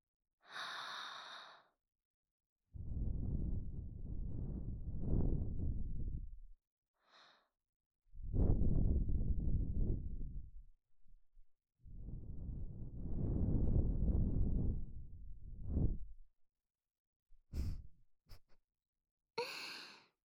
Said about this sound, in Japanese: お耳の中に残ってる汚れを息で吹き飛ばしてしまいます。吐息、失礼しますね。